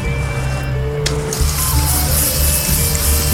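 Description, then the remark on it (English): An aerosol spray can hisses in a steady, continuous burst lasting a couple of seconds, loud, over a low, droning musical backdrop. “I like to spray the balls with Krylon.”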